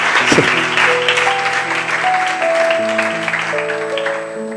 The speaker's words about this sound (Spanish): Dale ese aplauso al Señor, para que mováis un poco la sangre.